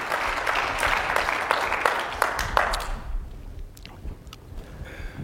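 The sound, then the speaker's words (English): A church audience claps steadily for about three seconds as a clap offering to the Lord, a dense wash of hand claps with a few sharper individual claps standing out, then it fades quickly into quiet background noise. “Let's give the Lord another good clap offering here this day.”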